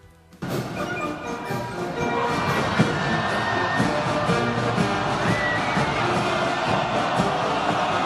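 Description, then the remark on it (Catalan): A parade held in China a few years ago: loud, dense crowd roar with music woven through, starting abruptly after a brief moment of quiet and holding steady and full throughout, with scattered shouts and cheers. “És la desfilada que es va fer fa pocs anys a la Xina.”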